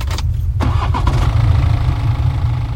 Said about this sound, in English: I slammed his door shut, then dived into the driver's seat, slamming the locks whilst turning the key in the ignition.